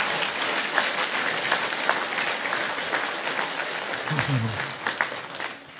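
Steady applause from an audience, a dense wash of many hands clapping for several seconds, with a brief low murmur of voices near the end before it tapers off.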